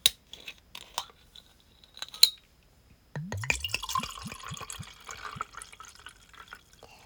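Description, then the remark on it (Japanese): A few sharp clicks and cracks as the cap of a bottle of Chamisul soju is twisted open, followed by a steady pour of the soju into a glass with rhythmic glugging that rises in pitch as it fills. “それじゃあ最年も早速お酒開けちゃいます。まず大好きなチャミスルから。”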